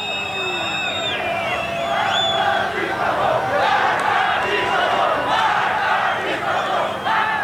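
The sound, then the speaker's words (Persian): A large crowd of protesters in Karaj shouts and chants slogans together on a Wednesday evening, including "Death to the dictator", a dense roar of many voices with rising yells and whistle-like cries cutting above it, steady and loud for the whole stretch. “در تصاویری که بر روی شبکه‌های اجتماعی منتشر شده، شعارهایی از جمله مرگ بر دیکتاتور شنیده می شود.”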